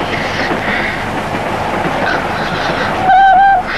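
A train rolls steadily along the rails with a dense, continuous rumble and faint clacking, ending in a brief high metallic squeal of the wheels.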